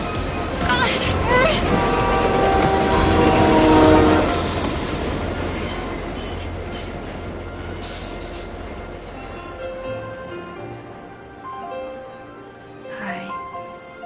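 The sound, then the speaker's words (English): A fast express train roars past, its rumble swelling to a loud peak within a few seconds, then fading as wheels squeal and ring with high metallic tones. “Mister, there's a train coming and it's fast. It's an express.”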